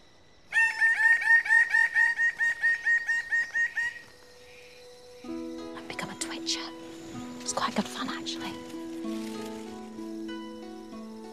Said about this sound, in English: There's a noise the Rajiana Bird of Paradise makes that perfectly sums up Papua New Guinea, and that is wow.